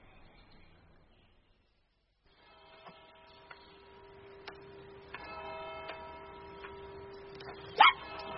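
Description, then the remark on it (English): A dog, Pug, gives a single sharp bark near the end, standing out over a steady mechanical hum with faint ticking clicks scattered through the background. No one speaks. “Oh, you horrible dog!”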